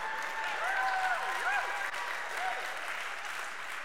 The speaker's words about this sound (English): Don't be clapping for that. Y'all supposed to say, help her, Lord, help her, Lord.